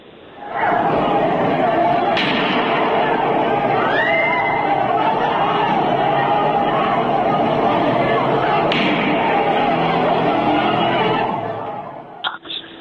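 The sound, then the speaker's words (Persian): At a street protest in Javanrud, a dense, agitated crowd of protesters roars and shouts continuously, and two sharp cracks like gunshots, fired at the protesters, ring out several seconds apart above the din before the noise cuts off. “حتی تو خودروهای مردم فیلمایی نشون میده که تو خودروها گاز اشکاور دادن و شلیک گلوله به سوی معترضان کردن”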